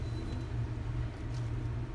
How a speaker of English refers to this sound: And a little bit of thunder out there. I'm glad that we're getting a little bit of moisture right now.